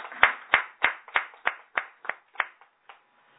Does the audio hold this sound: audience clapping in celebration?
yes